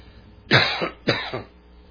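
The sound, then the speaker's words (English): Two harsh coughs in quick succession, each a sharp burst with a short rasping tail, separated by about half a second, with no talking. “See if I can quit coughing long enough to finish this message.”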